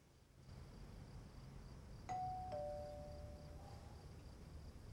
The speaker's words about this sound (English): She waits a moment, then hearing the doorbell again, makes for the stairs.